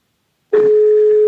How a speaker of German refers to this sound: Okay, wir starten jetzt mal einen Anruf. Alexa, rufe BBSB. Es läutet hin.